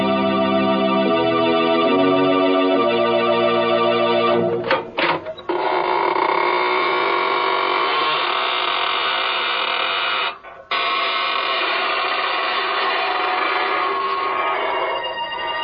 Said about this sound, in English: This is your host of the Inner Sanctum, inviting you in through the creaking door.